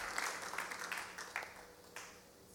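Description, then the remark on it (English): A church audience applauds a speaker about to share the morning's word, a soft wash of clapping with a few sharper claps standing out, fading toward the end. “So could you just give her a hand clap this morning?”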